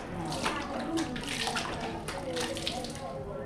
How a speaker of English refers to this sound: and so she heads into the shower stall and just dumps the cold water over her head.